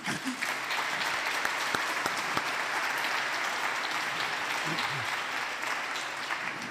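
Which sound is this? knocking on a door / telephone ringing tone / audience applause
audience applause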